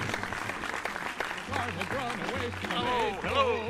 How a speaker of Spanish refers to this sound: Está aquí y pide un aplauso para... Un aplauso de bote para...